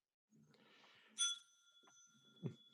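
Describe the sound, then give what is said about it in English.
A single bright bell ding, signalling one point awarded for a good point, rings out sharply and lingers with a sustained, shimmering tone that slowly fades, over low background rumble, with a dull thump shortly after. “That's the you're done bell?”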